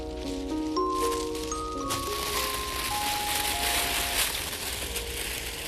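A continuous rushing, hissing sound effect imitates moving water, steady and fairly loud throughout, with a few soft ringing tones drifting over it in the first half.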